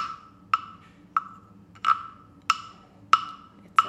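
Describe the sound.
Six short, sharp croak-like knocks with a hollow ringing tone, evenly spaced about every half second, imitating a frog's croaking during playful music-making. Fairly loud, with no voices.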